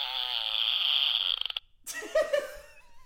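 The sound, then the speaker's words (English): An electronic novelty fart noise from a farts-in-a-can noise machine found at a costume shop: a long, loud, buzzy blat lasting over a second that breaks into a rapid sputter, followed after a brief pause by a noisy vocal reaction. “We went to a costume shop and we found this farts in a can noise machine.”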